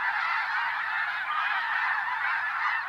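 A dense chorus of snow geese honking continuously, a large flock of thousands calling all at once in a loud, steady, overlapping clamor with no pauses, like a wall of sound from overhead, flying in autumn along North American flyways as they return from Arctic breeding grounds.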